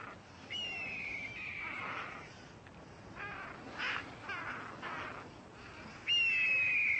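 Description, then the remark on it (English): Parrots give harsh alarm squawks at the sight of a hawk, long grating screeches at the start and end with a run of short, repeated caws between them, loud with no talking. “Hear that sound they're making? That caw, caw, caw. That's the sound they make when they see a hawk.”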